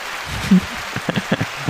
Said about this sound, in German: Dieser Applaus war nur für dich.